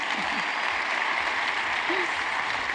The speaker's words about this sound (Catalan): Bé, aplaudiments en aquest Teatre Nacional.